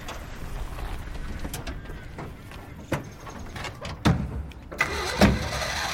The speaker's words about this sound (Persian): رضا برا آتیش کن بریم آقا. رضا و مسعود سوار ماشین میشن.